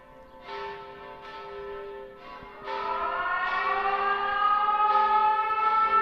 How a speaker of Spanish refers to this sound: Una sirena a las 8:30 de la mañana, hora del ataque, rememoraba lo que ocurría aquella jornada.